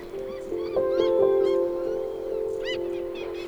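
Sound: birds calling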